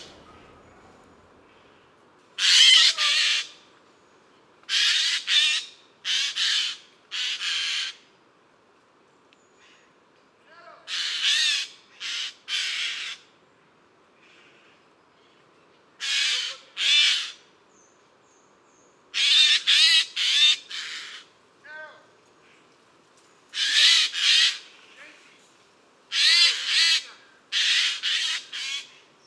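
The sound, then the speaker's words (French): Eurasian jays, having spotted a tawny owl, give loud, harsh rasping screeches, about twenty in all, coming in clusters of two to four with short gaps between groups. No one speaks. “Je passe au jet des chênes, la sentinelle de la forêt.”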